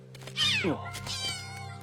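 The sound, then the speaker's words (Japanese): A single clear cat meow from a cat with no collar, rising then sliding downward, fairly loud, with a low steady hum in the background and no talking during it. “彼女の猫でしょうか？”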